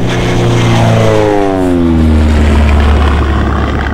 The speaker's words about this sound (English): Are you sure you know how to fly this plane